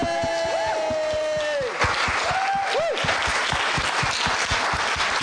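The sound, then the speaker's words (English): A crowd bursts into sustained applause and cheering for Jesus, dense clapping for several seconds, with whoops and raised voices rising above the steady roar. “And I think we should give Jesus a big shout. Should we do that? And a big round of applause.”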